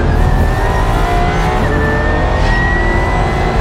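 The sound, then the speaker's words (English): A race car's 2-liter V8 engine, paired with three electric motors for over 2,000 horsepower combined, roars loudly and continuously, its pitch climbing steadily as it revs, with a harsh, dense mechanical growl throughout and no voices. “You're going to get three electric motors instead of four, and in the back, you get a 2-liter V8 engine that makes over 2,000 horsepower combined.”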